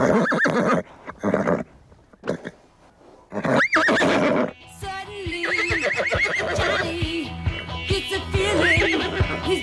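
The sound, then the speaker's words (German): A work horse of about 800–900 kg, one of the City of Vienna's carter horses, whinnies loudly in a shrill rising-and-falling neigh, followed by a stretch of busy, tonal outdoor noise with more horse sounds mixed in. “Ich habe jetzt bei mir den Besitzer der Pferde, Johannes Stippich.”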